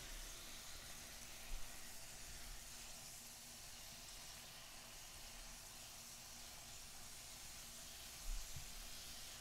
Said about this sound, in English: toast is just sizzling away.